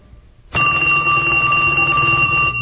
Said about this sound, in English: Oh, the phone's ringing.